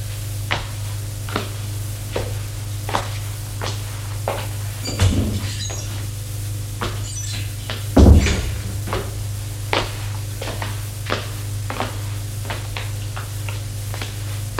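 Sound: bedroom door being opened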